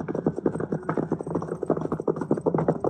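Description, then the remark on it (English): Jack's horse, running loose, clip-clops its hooves in a quick, steady running rhythm on hard ground, moderately loud, with no one speaking. “Is that Jack's horse running loose?”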